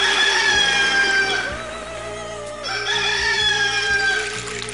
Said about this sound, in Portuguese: A bordo, monotonia absoluta, só quebrada pelos cantos dos galos.